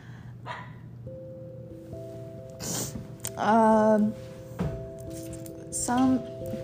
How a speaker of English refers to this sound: My dog is being loud. I'm sorry for that. She's a little special.